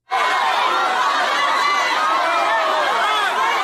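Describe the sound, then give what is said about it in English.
A loud, dense crowd roars and shouts continuously, many overlapping voices screaming at a man they push around in a room, in a chaotic, agitated din that stays steady throughout. “There's one of the guys in the room, and he's literally getting pushed around by a massive crowd of people who are screaming at him and trying to hurt him.”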